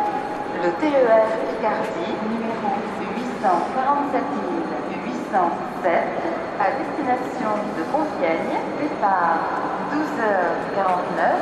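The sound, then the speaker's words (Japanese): A train in France running steadily, heard from inside a second-class carriage with toilets, next stop Chantilly-Gouvieux, with a continuous low rumble and rattle while voices talk in the background throughout. “トイレもちゃんとついてるし、なかなかいいトレインじゃないですかこれは。”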